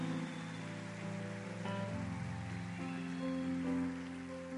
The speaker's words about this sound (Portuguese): Pode aplaudir o Senhor.